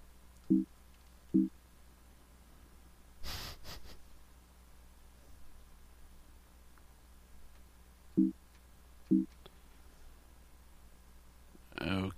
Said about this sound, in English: Okay. Press the V key. And it just beeped at me.